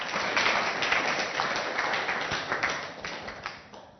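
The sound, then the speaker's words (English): An audience claps steadily for the Lord, many hands together in a dense, sustained wash of applause that holds at a fairly loud level and eases slightly toward the end, with no voices standing out. “Let's clap the Lord.”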